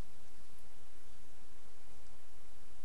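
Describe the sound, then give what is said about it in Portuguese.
Papers that were stuck down, a whole pile of them, are peeled away, a soft, steady crinkling hiss that runs unbroken for a few seconds with no voices over it. “Deixa eu tirar meus papéis colados aqui. Um monte de papel.”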